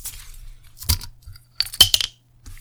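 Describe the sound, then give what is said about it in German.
A bulb-shaped beer bottle being opened: a few glassy, metallic clinks from the stopper, then a soft, muffled pop with a short hiss, no voices. “Ja, hat mehr gepuppt als geploppt, aber...”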